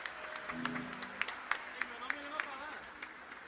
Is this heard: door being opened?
no